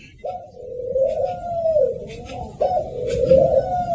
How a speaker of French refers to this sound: Ça, c'est les oiseaux de la paix, ça, c'est symbolique, hein. C'est le signe de paix.